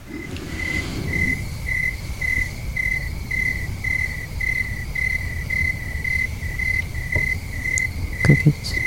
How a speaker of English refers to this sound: Crickets.